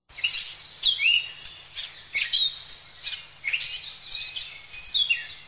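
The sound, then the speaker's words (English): Birds, including a bird named Billy flying around, chirp and tweet in quick, repeated high-pitched bursts, clear, with a faint background hum and no voices. “He found a bird named Billy flying around.”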